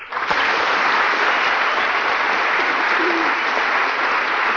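A crowd applauds steadily after being asked to clap if they have never been polled, a dense, even wash of clapping that holds at full strength for the whole stretch without fading.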